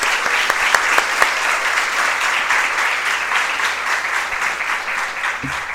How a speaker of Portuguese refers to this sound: Então, uma salva de palmas para a cultura e a educação que está representada aqui na Casa do Povo.